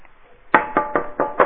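Five firm knocks on a front door in a quick, fairly even rhythm, loud, after a brief quiet moment, with no voices.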